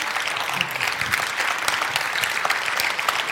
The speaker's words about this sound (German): Ja, dann erstmal einen riesigen herzlichen Applaus für Christian Berger.